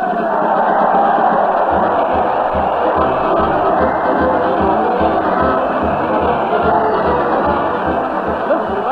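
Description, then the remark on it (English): A large crowd cheers and shouts continuously at Fred Allen's weekly parade to the old town hall, hurling insults at the Allen Art players, a loud, dense roar of many voices with whoops and jeers rising throughout, steady for the whole stretch. “Fred's hurling kisses to the crowd, and the crowd is hurling insults at the mighty Allen Art players.”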